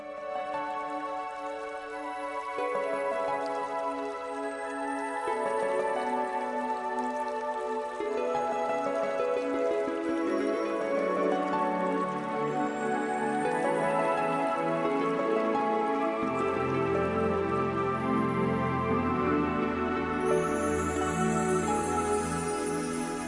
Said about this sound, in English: And for the rest of this few seconds left, I'd like to play the beautiful song, the Japanese water song, if we could,